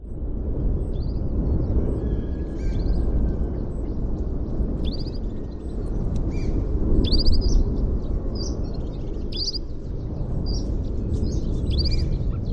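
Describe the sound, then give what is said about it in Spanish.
Wild canaries, a rooster and a chough (a corvid) call in short, high, scattered bursts on La Palma in the Canary Islands, recorded alongside the volcano, over a loud, continuous deep rumble that fills the whole recording without pause. “Te cuento, hay un gallo, ¿sí? Hay un esto que suena que es un bandito de canarios silvestres, es ajá.”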